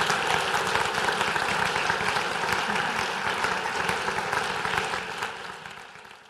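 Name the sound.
audience round of applause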